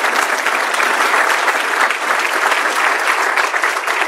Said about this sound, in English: And I want to thank you, Mr. State's Attorney, for all that you continue to do. I know it's not easy, but thank you. And let's give him another round of applause, please.